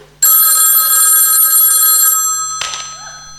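A telephone rings loudly in an apartment at 4:30 on a Sunday morning, with one long, sustained metallic bell trill lasting about two seconds, followed by a brief clunk and a faint rustle.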